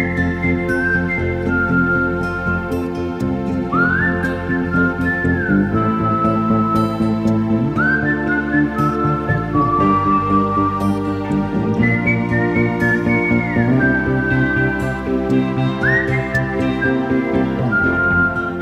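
A whistled melody in a film score glides and swoops in clear sustained phrases, riding steadily on top of a full, continuous musical accompaniment of bass and instruments, with no voices.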